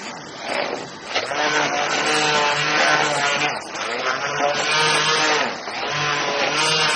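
A blender runs continuously, its loud motor whirring with a steady harmonic drone that wavers slightly in pitch as it churns chocolate with a gelatin mass and milk into a smooth emulsion.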